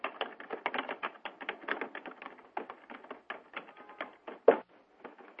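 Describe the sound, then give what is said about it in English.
Rapid, steady typing on a keyboard, a dense run of crisp key clicks with brief pauses and one sharper tap near the end, with no voices. “I bet that's not him typing.”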